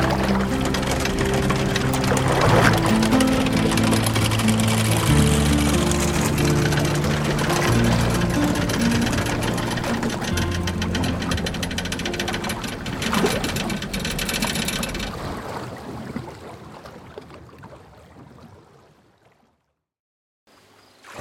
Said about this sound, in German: Manchmal kann der Fährmann den Pram einfach gleiten lassen. Der Gezeitenstrom unterstützt ihn. Lassen Sie sich von ihm erklären, wann er die rasselnde Kette umlegt.